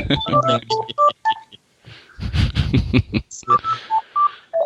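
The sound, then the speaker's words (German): An electronic phone ringtone plays for an incoming call: quick bursts of bright beeping tones in a melodic pattern, broken by a noisy passage in the middle, then resuming with short repeated beeps. “Ich krieg gerade ein Telefon an.”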